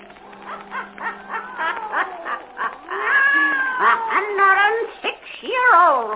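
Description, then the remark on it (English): A black cat, Satan, yowls and caterwauls in a long, loud series of wavering, rising and falling cries, with barely a pause across several seconds. “Weird, blood-chilling tales told by old Nancy, the Witch of Salem, and Satan, her wise black cat.”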